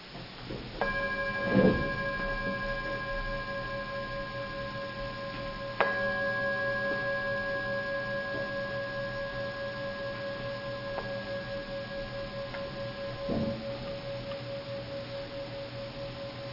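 A gong is struck a few times to begin a session and call for a few moments of quiet, each hit blooming into a long, shimmering metallic tone with layered overtones that hums on and slowly fades, with no one speaking.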